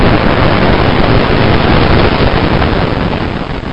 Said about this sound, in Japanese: 俺たちが来た背後から、凄まじい爆発音が響いた。